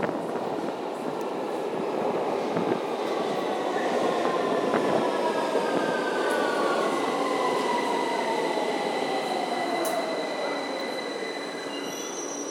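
A subway train rumbles steadily and loudly along the tracks, with long high-pitched wheel squeals sliding up and down over a dense, continuous roar; no one speaks.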